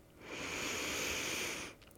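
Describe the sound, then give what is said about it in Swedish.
A long, deep inhale drawn in steadily through the nose or mouth during a guided breathing exercise, an airy rush lasting about a second and a half before falling away, with no one speaking. “Andas in.”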